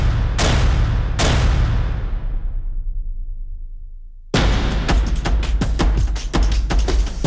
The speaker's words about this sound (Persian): با شلیک مستقیم به سر معترضان، به بدن شهروندان، بی پرواتر از همیشه در نمایش خشونتی اوریان، با رگبار در خیابان، تک تیرانداز بر بام، ادوات زرهی در جاده